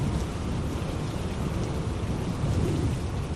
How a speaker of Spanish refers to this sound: Y lluvia, viento y nieve. Casi toda España está hoy en alerta por la borrasca